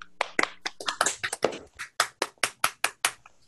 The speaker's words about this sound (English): So I was hoping we could all unmute ourselves briefly and just give them a big, big round of applause, the entire group of organizers all over.